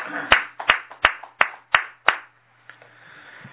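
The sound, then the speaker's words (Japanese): About six sharp, fairly loud hand claps from a small group at a morning service, celebrating a 48th birthday, land in a steady, evenly spaced rhythm, then the sound falls away into near quiet. “盛大な拍手をお願いします。”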